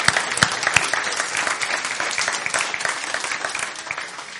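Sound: audience clapping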